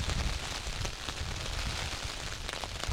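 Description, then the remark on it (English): Steady rain patters and hisses on the ground all around on misty heather moorland, a dense, even wash of drops with low rumbling gusts underneath and no voices. “And as far as I can see, which granted, given the mist and rain, isn't that far, there's just a wash of colour that is lifting the surroundings and also lifting my heart as well.”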